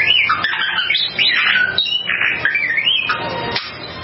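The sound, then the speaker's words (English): A family's pet bird chirps out rapid, swooping electronic-style beeps and warbling whistles, mimicking the Star Wars droid R2-D2, loud, in a continuous burst of squawks for about four seconds. “a family's pet bird who mimics his favorite Star Wars character, R2-D2”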